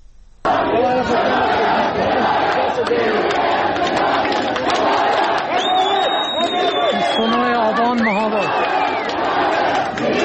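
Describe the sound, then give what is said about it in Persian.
A large crowd gathered around a police station in Mahabad, Iran, chants slogans and shouts in a loud, continuous roar. Scattered sharp gunshot cracks cut through the din, and a few higher whistling cries rise over the voices. “از جمله یک حضور پرتعدادی که مردم در اطراف یک کلانتری در یکی از محله های مهاباد تجمع کردن، شعار نیروی انتظامی حمایت حمایت میدن، اما در این حال صدای تیراندازی هم به گوش میرسه.”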